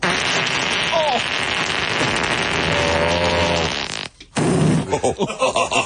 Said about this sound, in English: Microphone goes down, and we hear what is commonly known as a fart.